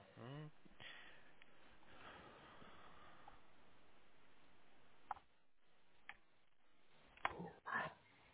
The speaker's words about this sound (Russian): Вот, гудки вот идут такие вот. Короткие гудки, так. Да, и потом какие-то щелчки, и это непонятно.